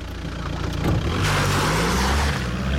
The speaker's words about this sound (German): Ja, wie man hört, ist er dann mit quietschenden Reifen von gefahren.